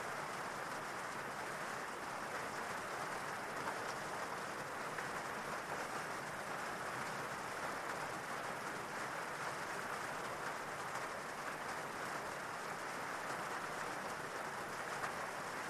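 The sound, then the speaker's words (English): Steady, continuous rainfall with a dense, even hiss that never lets up, moderately loud, with no voices or other distinct sounds breaking through. “Listening to the rain and letting every muscle become free of tension.”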